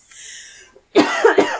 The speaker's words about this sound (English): Excuse my coughing. And we both coughed. Excuse me.